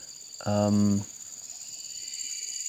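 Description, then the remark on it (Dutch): A steady, high-pitched chorus of buzzing insects in the jungle beside a riverbed drones without a break, and a brief low voice-like sound rises over it for a moment near the start. “Op het moment zit ik in de jungle, zoals je misschien wel hoort.”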